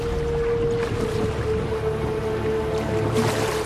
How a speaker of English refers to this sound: A small flotilla of boats are being rowed into the entrance of a dark sea cave.